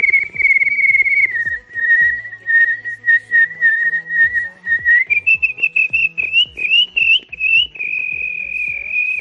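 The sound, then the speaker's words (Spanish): A radio listener from Cartagena, Murcia, whistles a long, bird-like tune, a steady high trill that wavers and rises in pitch partway through, with quick chirpy flourishes over a soft clicking background, imitating the pet bird kept at home. “Os voy a imitar al pájaro que tengo en casa, desde Cartagena, Murcia.”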